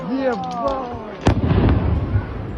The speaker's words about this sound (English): We did see a Ukrainian drone recently hit a beach in southern Russia, killing 7 and injuring many others. Verified social media video shows a drone slamming into a busy beach, followed by a loud explosion as tourists looked on from the water.